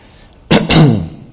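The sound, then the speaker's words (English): A single loud cough breaks a quiet moment: a sharp burst followed by a rougher, drawn-out second push that fades quickly. No one speaks. “I should have coughed that way.”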